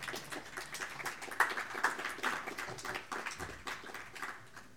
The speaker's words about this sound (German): Ja, Zeit zum Klatschen.